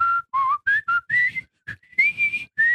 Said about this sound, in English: Like the whistling on ….